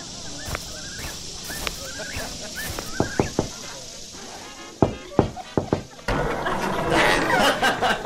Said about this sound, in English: Oh, hey, you don't have to knock. You can just come in.